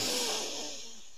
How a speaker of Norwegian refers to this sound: Og enda en gang pust. Godt inn.